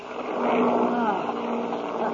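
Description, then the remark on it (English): The motors of an airplane running into a rainstorm roar in a continuous low, buzzing drone with a faintly uneven, sputtering edge, holding at a fairly steady loudness throughout. “Listen to those motors.”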